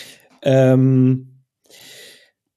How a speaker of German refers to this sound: Jetzt muss ich husten, das tut mir leid. Gar kein Problem. Es kratzt im Hals.